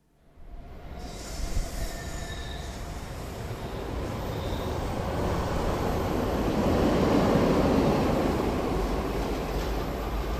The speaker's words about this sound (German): So tönt der Zug, der regelmäßig vor den Radio Rabe-Büros durchfährt. Denn eine Hälfte der Rabe-Räumlichkeiten liegt direkt an der Bahnlinie.